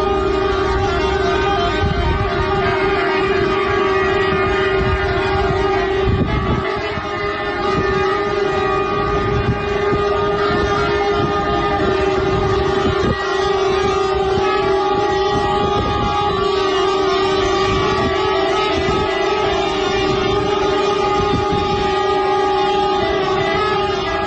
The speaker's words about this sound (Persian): رانندگان در این اعتراض همانطور که شنیدید بوق کامیون‌های خود را به صدا درآوردند.